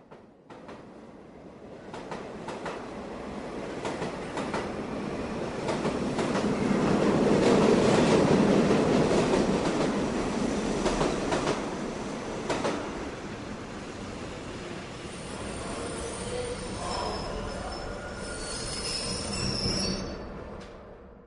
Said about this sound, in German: als der Zug in Berlin Hauptbahnhof hält. Ein Koloss aus Glas und Stahl, erst vor einigen Jahren gebaut.